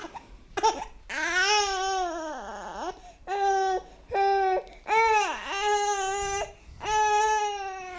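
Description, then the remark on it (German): A baby cries and babbles, loud and alone, in a string of strained, wavering wails broken by short gaps, some rising and falling in pitch. “Ja, es sei denn, man bekommt in dieser Zeit ein Baby.”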